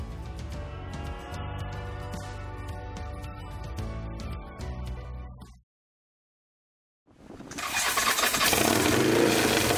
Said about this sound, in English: Well, he just hops on one of his two motorcycles and takes off.